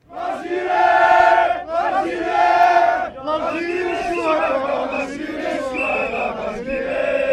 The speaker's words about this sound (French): Drapeau sur les épaules, autour de la tête ou à la main, la foule entonne des chants patriotiques. Tous ont l'Algérie au cœur et des mots durs au bord des lèvres.